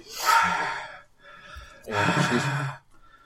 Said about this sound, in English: We have kind of an unofficial mascot on Saturdays who sometimes is part of the show. If not, if you hear heavy breathing and it's not a person, it is a very needy animal.